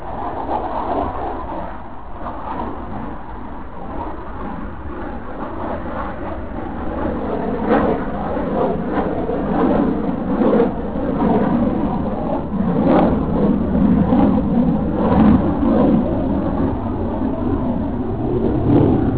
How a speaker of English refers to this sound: What I thought would be the quiet forest. In fact, as you can hear, the jets from Lossiemouth seem to be louder here than they were down by the river.